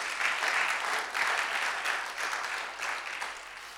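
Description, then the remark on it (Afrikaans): Sustained applause from a crowd clapping for the Lord, dense and steady hand clapping for several seconds with no talking over it. “Kom skryf vir die Here, lekker hande klap daarvoor.”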